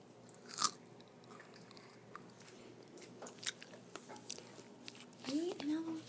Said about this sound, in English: Just chew it up.